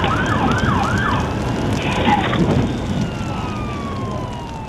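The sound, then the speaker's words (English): Emergency vehicle sirens wail over a loud, rumbling background as a fire chief drives up to a burning house, one siren sweeping rapidly up and down in a repeating pattern while another tone glides steadily downward. “Over the howl of the sirens, you can hear him say, "Oh my God.”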